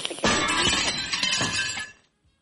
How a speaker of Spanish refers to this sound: Empecé por arriba, obviamente, no pasó nada. Después por los lados, los costados, no pasó nada. Cuando saqué lo último de abajo, el vidrio del espejo cae.